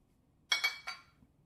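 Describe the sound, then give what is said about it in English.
Three bright glass clinks in quick succession as glasses are touched together in a toast, each ringing briefly and fading against a quiet background. “Cheers. To the reunion of old friends.”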